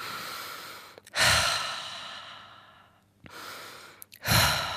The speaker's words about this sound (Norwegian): Så før jeg skal snakke, når jeg i studio, så pleier jeg å ta noen ordentlig gode pust.